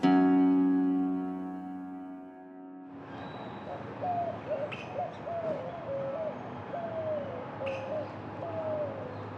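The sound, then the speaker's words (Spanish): After a brief sustained tonal drone, a white-winged dove (Zenaida asiatica, family Columbidae, a city bird 27 to 31 cm long) coos repeatedly in a steady rhythmic series of soft, hooting notes over a light background hiss. “Paloma ala blanca, paloma de alas blancas, de nombre científico Cenaida asiática.”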